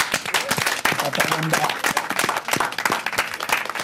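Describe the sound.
A crowd applauds steadily for several seconds, a dense patter of many hands clapping at once, with a brief voice or cheer rising faintly through the noise.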